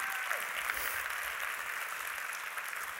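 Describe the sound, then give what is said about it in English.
A church audience at Go Church claps steadily and continuously for about three seconds, a dense, even wash of many hands applauding together at moderate loudness with no voices standing out. “So come on, let's clap.”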